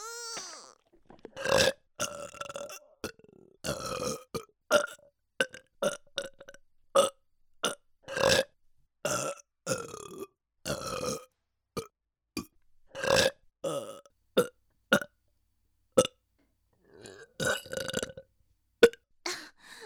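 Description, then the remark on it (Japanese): A long run of loud burps, dozens in quick succession with short gaps between them, some stretched and croaky, others short and clipped, with no talking in between. “サキュバスアナルゲップ。”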